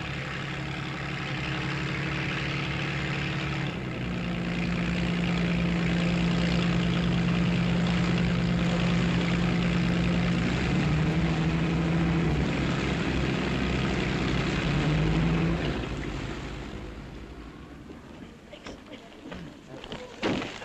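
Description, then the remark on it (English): The propeller engine of a plane delivering mail to isolated communities drones loudly and steadily, holding a constant hum for several seconds before fading away toward the end. “Whether the mail comes by van, by plane or by steamer, it's sure of a warm reception.”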